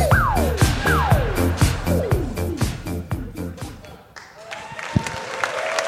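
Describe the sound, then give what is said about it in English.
Steady, dense applause fills the whole stretch, with a repeating descending whistle-like tone sweeping down over it about once a second before the clapping carries on alone. “Probably the biggest applause break we've gotten so far.”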